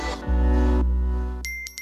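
A phone notification chime rings out with bright, high tonal pings, followed by a quick burst of repeated short chimes over a sustained low background tone. No one speaks. It represents 30,000 property owners receiving alerts that their rents have been paid today.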